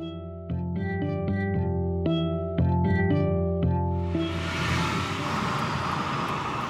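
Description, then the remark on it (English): A few seconds of plucked musical notes give way to a loud, steady rushing roar of road and wind noise from riding inside a moving car with the AC on instead of the windows open while a caseworker runs errands, with no voices. “I'm riding around in the car with”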